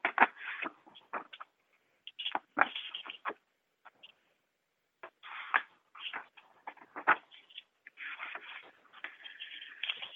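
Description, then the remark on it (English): Pages of a book being turned while looking up Job chapter 32, a series of dry, crisp paper rustles and flicks coming in irregular bursts with short pauses between them, fairly loud and heard on their own with no talking. “Probably hear me turning pages here, huh?”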